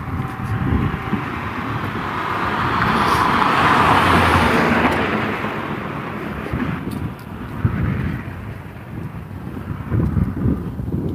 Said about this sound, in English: It's pretty quiet here in the neighborhood. It's not a lot of traffic. I think most of the traffic has gone at this point.